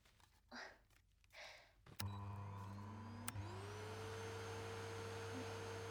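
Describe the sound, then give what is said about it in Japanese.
A vacuum cleaner clicks on and whirs up to a steady, loud drone, its motor pitch rising before settling into a constant hum, preceded by a few soft breathy rustles. “そしたら掃除機あった。”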